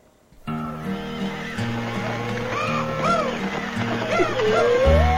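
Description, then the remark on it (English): Horses whinny several times in rising and falling cries over a steady, rhythmic clip-clop of hooves. The sounds are loud, continuing for a few seconds with no talking. “Split the praises, you mule hip cayuses!”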